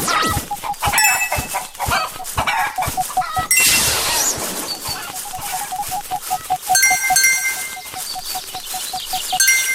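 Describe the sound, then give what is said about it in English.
Chickens cluck steadily in a busy farmyard, with other animal calls and scattered thuds mixed in throughout. The sound is dense and fairly loud, with no clear speech. “I'm not sure where the chicken is.”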